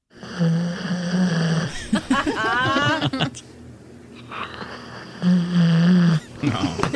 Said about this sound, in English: All right, so this is your dog snoring. Yes. This is right next to you in the middle of the night. Yes.